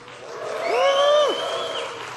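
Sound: audience cheering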